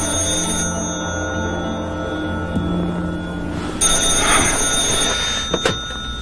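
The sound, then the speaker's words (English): A telephone rings at 6:30 in the morning with a steady, bright tonal buzz that carries through the whole stretch, swelling into a harsher, louder burst partway through. No one speaks. “I've just been up with the kids since 5, so I thought I'd ring.”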